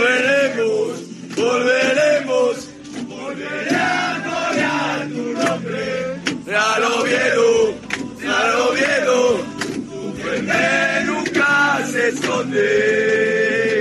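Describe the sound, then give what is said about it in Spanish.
A group of men sings and chants loudly together in a rowdy celebration on the Oviedo team bus returning from Eibar after securing a playoff place, voices overlapping in rhythmic bursts with shouts and cheers throughout, the noise staying dense and continuous. “Este es el sonido de la fiesta del autobús volviendo de Eibar tras conseguir el playoff.”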